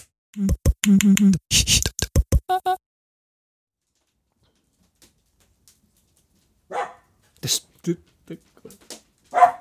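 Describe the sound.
A dog barks loudly in a rapid burst of about eight sharp barks, then silence, and later a person starts talking.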